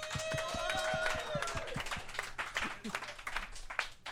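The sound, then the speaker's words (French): An audience breaks into steady applause, many hands clapping in a dense, crackling wash for about four seconds, with a brief high vocal cheer rising over it at the start. “Par applaudissement à ceux qui ont déjà été inconfortables.”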